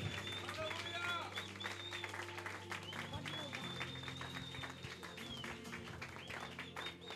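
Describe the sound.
An audience claps loudly and steadily for the Lord for several seconds, a dense wash of applause over sustained organ-like music tones, with voices rising and sliding above the clapping.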